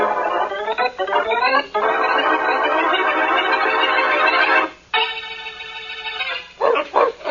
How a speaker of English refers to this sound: Faraday, what did you do to those dogs when you had them in your office? Nothing but look at them, Blackie, and wish I could understand bark language.